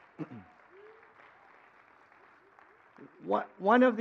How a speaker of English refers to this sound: And let's give him a big round of applause.